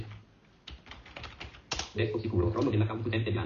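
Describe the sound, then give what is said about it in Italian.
A quick burst of keyboard typing as 'regedit' is typed into the Windows Run dialog, several sharp clicking keystrokes, followed by a denser stretch of tapping under a low background hum and faint voice-like tones. “Allora, innanzitutto premiamo la combinazione Windows R, che è il esegui, abbiamo detto, digitiamo regedit.”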